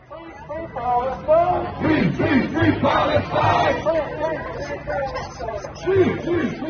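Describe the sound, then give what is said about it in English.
A large crowd of hundreds of protesters chants in unison outside the Israeli consulate in downtown Chicago on the second day of the convention, many raised voices rising and falling in a steady, repeating rhythm, loud and continuous throughout with overlapping shouts. “On the second day of the convention, hundreds of protesters gathered outside the Israeli consulate in downtown Chicago, nearly 2 miles from the United Center where the convention was being held.”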